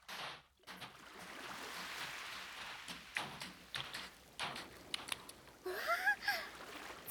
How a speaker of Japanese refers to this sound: 波打ち際って波が足の裏の砂をさらっていって、なんかくすぐったくない？ちょっとゾクゾクってする。